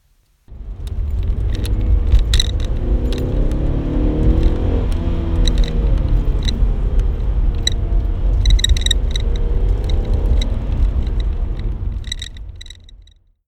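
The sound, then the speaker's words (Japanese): A car's engine drones steadily from inside the cabin as it drives, with heavy low rumble, rising and falling pitch, and scattered metallic jingling and rattles on top; no one speaks. “その聞くに耐えないという音、ちょっと自己満足的な走行音、エンジン音なんですけども、少し聞いてみてください。”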